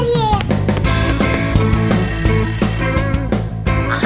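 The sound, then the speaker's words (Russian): A loud alarm clock bell rings continuously for several seconds, harsh, with a rapid metallic rattle and no voices. “кажется, звонит мой будильник.”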